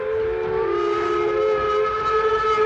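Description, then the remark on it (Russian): A train whistle blows one long, steady note as a train departs from a platform, loud, with a faint rumbling rail noise underneath and no voices. “Поезд ушел быстро, его огни скоро исчезли, и через минуту уже не было слышно шума.”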